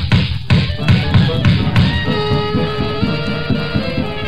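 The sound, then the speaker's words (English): A trap door opens with a long creak and drops shut amid a run of dull, evenly spaced wooden thumps, fairly loud, with no talking. “We'll go right through this trap door.”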